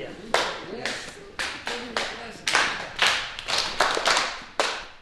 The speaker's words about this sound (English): begins by getting them in sync with the rhythms he's clapping.